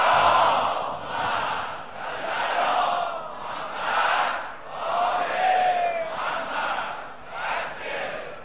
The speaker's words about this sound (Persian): بنده چون خیلی با این ور اونور بودم، با آدم ها و مسلمان های مختلف و فرقه های اسلامی مختلف، تنها فرقه ای که دیدم که اینجور صلوات بلند میفرستن بچه شیعهان. بنابراین به روح همه شون بلند صلوات بفرستن.